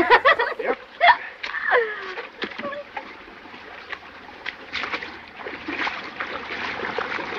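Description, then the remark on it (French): Water splashes and sloshes in uneven bursts as someone wades steadily across a river somewhere between New York and Miami, carrying another person piggyback, with a few brief vocal murmurs or chuckles mixed in near the start. “Mais pour l'heure, il s'agit de traverser une rivière quelque part entre New York et Miami.”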